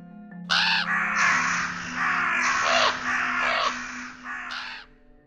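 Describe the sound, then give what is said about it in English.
Dozens of ravens flying in the night sky give a string of loud, harsh, drawn-out caws, one raspy call running into the next over a faint low steady hum, with no voices. “the sound of their wings beating in the air as they call mournfully out into the night.”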